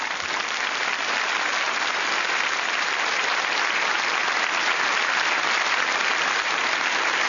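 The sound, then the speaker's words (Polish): An audience applauds after the final blessing of a Catholic mass, a dense, steady wash of many hands clapping that holds at an even loudness for the whole stretch, with no voices standing out. “Te oklaski po każdej Eucharystii to nawiązanie do reakcji chrześcijan pierwszych wieków, kiedy właśnie po mszy świętej, kiedy wierni otrzymali błogosławieństwo, rozlegały się długie owacje”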